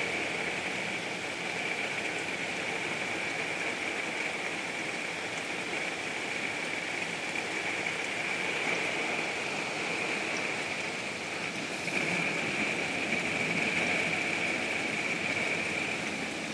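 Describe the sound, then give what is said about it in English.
Steady, dense rain pours down with a continuous hiss, mixed with the broad roar of strong wind. The sound stays fairly even throughout, swelling slightly near the end, with no voices. “I hear thunder in the distance, but I don't hear a whole lot of loud stuff near us now. Mostly just rain, lots of wind.”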